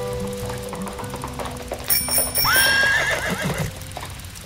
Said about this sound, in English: Just then, a horse and buggy carriage came out of nowhere, almost clipping DJ Jeffy Jeff off the road.